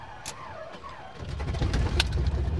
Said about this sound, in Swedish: Där gick motorn igång.